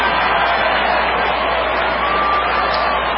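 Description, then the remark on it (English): A crowd applauds steadily after a tiny bird, a sparrow or similar, that sat on Bernie Sanders' podium flies off: a dense, loud wash of many hands clapping with a faint murmur of voices mixed in, holding even for about three seconds. “And then he flies off, so everybody gives him another round of applause.”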